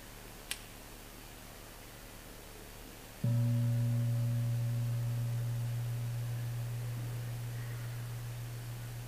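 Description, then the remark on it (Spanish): A single gong is struck after a brief click, giving a deep, low humming tone that rings on steadily and fades only slowly over several seconds, with no voices. “Cuando vuelva a sonar el gong, cerramos los ojos y empecemos a ver lo que pasa en el interior, desde la estabilidad, sin analizar y sin buscar.”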